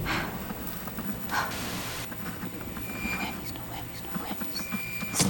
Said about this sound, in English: She presses a button. Static appears on the TV. She switches the dial. Another station of static. She switches the dial. More static.